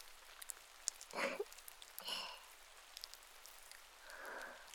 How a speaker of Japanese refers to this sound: 外雨降ってるのにそれでも分かっちゃう。